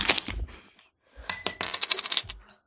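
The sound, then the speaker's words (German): A beer coaster is tossed down onto a hard surface, landing with a light slap, then a second toss clatters and skitters in a quick run of small taps. No voices. “Ich schmeiß jetzt mal einen Bierdeckel hin.”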